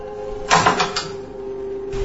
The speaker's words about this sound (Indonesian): Nessa membuka pintu rumah itu untuk pertama kalinya